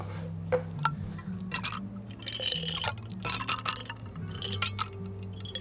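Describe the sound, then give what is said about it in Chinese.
A few ice cubes drop one after another into a cup of hand-shaken milk tea, making a series of sharp, irregular clinks and splashes, over a steady low hum with no talking. “哦，对了，还有最重要的冰块。”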